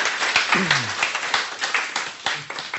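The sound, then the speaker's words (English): A crowd applauds steadily, many hands clapping in a dense, continuous patter at moderate loudness, with a brief voice or cheer rising faintly beneath it. “Can we give a round of applause”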